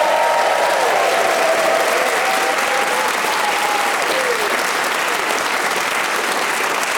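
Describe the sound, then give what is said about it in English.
The studio audience of the show Just a Minute claps steadily and loudly throughout, welcoming the four panelists Paul Merton, Tony Hawks, Heidi Regan and Eleanor Tiernan; a dense wash of applause with a few whistles and whoops cutting through near the start. “Please whoop and cheer for all of them.”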